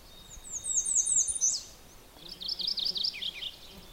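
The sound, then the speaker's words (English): Two bursts of a bright, rolling mourning warbler song from thick brush at the edge of a logged area, each a quick run of repeated chirpy phrases dropping at the end, over a quiet outdoor background with no talking. “It's actually, the morning warbler song is not that hard to learn because it's fairly consistent.”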